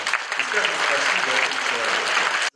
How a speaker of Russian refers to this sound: Это наш благотворитель, меценат, помощник Игорь Михайлович Греков. Его сегодня нет здесь, он не слышит моих слов, которые я говорю. Но давайте мы поаплодируем.